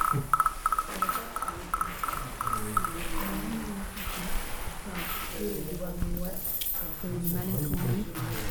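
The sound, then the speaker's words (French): A small frog croaks in quick, repeated high chirps over the first few seconds, fairly clear, with voices and other soft background sounds continuing underneath. “On entend une petite grenouille.”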